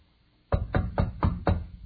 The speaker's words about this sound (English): A knock comes at her door.